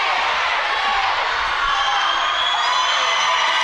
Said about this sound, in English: And as you can hear, the crowd go wild when they see that their team, Isle of Man, has just beaten Ireland 57 goals to 45 in what is the clinch match for the Netball Europe Open event.